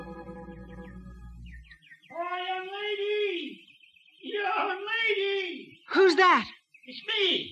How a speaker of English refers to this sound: Now, were you this deep in the cave when you heard the wail? I don't think so. It scared me so.